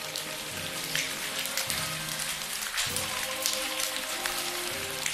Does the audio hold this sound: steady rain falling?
yes